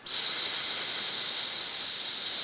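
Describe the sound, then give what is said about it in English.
A person makes a long, steady hiss like a serpent, sounding the letter S: a sharp airy sound held evenly for over two seconds with no words. “But I've gone around, you know, hissing like a serpent in the you can try it yourself, you know.”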